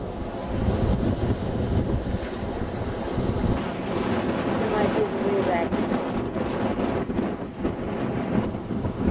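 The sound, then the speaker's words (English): Rough, choppy water churns and slaps continuously while strong wind buffets the microphone, creating a loud, steady roar with gusty surges throughout. “Very choppy.”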